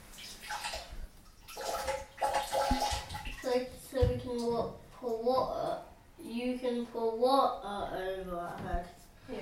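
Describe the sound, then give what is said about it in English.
Water splashes and pours over a child in a bathtub for the first couple of seconds, then a child's voice chatters over quieter sloshing. “Pour water over her.”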